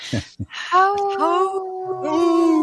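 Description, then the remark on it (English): A wolf howls in a long, steady, drawn-out tone that wavers slightly and briefly breaks before continuing, clear, preceded by a couple of short, breathy bursts. “I got to find the Howling Wolf.”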